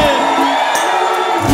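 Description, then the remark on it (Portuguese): A live concert crowd shouts and cheers loudly when the singer asks those in love to shout, a dense wash of many voices whooping together, sustained throughout without a break. “Quem tá apaixonado dá um grito, faz barulho aí.”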